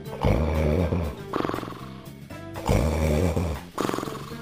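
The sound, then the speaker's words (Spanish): Loud, exaggerated snoring with deep rumbling inhales and harsh, growly rasps, repeating in a slow rhythm of about four breaths; heavy, with no talking. Likely a voice imitating the snore of a sleeping ogre in a told story. “Esperó Juan hasta que oyó ronquidos. Por fin cayó el ogro dormido.”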